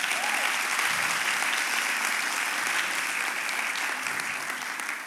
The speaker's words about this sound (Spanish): Si tú crees eso, dale un aplauso a Dios.